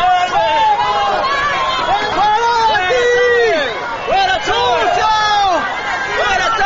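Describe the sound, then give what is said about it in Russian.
A street crowd of passers-by on Madrid's Gran Vía, outside a bookshop where Chávez's limousine has stopped, shouting slogans and insults such as dictator and murderer at the Venezuelan leader, many raised voices overlapping in a loud, continuous roar of yells and chants, unbroken for the whole stretch. “Когда лимузин Чавеса остановился у книжного магазина на мадридском проспекте Гран-Вия, прохожие стали выкрикивать в адрес вожака так называемой боливарианской социалистической революции разного рода нелицеприятные слова и лозунги.”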